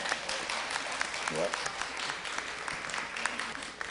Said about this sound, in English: You can applaud.